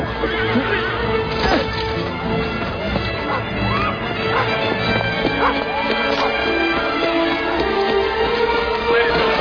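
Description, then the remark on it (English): Horse hooves clip-clop in an irregular patter, mixed with loud whinnies and snorting, over a busy, continuous background of scuffling and knocks. “Here, hold this horse for me, all right?”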